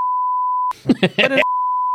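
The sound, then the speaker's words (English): A steady, loud high-pitched censor bleep holds for under a second, breaks for a brief burst of someone talking, then resumes and continues to the end. “Because I'll bleak this.”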